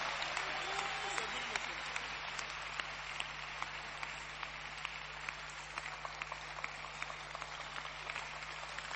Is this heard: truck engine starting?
no